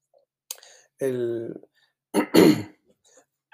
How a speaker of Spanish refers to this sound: Disculpen porque todavía tengo un poquito de tos, quizás no lo haga muy largo, ¿no? Porque empiezo a toser.